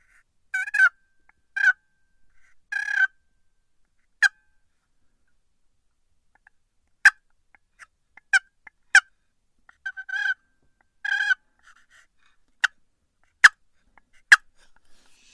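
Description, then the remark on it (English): Soft turkey clucks and purrs made on a turkey call: a few brief rolling purrs mixed with scattered sharp single clucks, fairly quiet, with silence between them and no talking. “All right, just a couple real soft clucks and some purrs, just letting the turkey know, all right, hey, over here, hey, something's going on, hey, I'm a turkey, I'm over here, you know, I'm cute, come get me, you know, just itty bitty stuff.”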